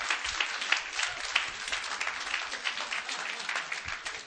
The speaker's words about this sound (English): Can you say amen? Come on, clap your hands.